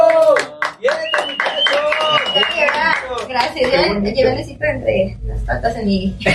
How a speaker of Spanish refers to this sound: Está bien, mira, la gente está aplaudiendo y está gozando lo que ustedes están haciendo, así que bien. Gracias. Mientras más canten, la gente dice que sigue aplaudiendo.